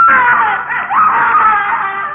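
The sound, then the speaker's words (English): A woman's sustained, high-pitched scream of terror, loud, wavering and dipping briefly before rising again, with no talking. “The darkness at the top of the stairs seemed to move, take shape. And I saw, heard her screaming.”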